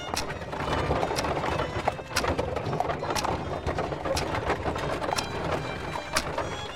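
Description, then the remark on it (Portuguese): Horse-drawn carriage clip-clop from the sound design of a stage production of Chekhov's Three Sisters: steady, rhythmic hoof beats roughly once per second over a continuous rumbling, rattling wheel noise, moderately loud throughout with no voices. “Tiros, sinos, carruagens compõem a viagem sonora das Três Irmãs.”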